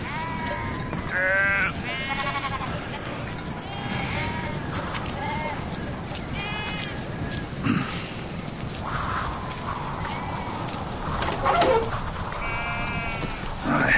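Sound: lamb bleating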